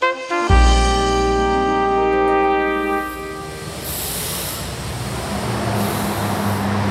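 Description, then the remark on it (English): A loud, sustained horn blares for a few seconds, then gives way to a steady wash of busy road traffic rumbling in Beirut, with no voices. “The only thing to block out the sound of construction across Beirut is the noise of the traffic.”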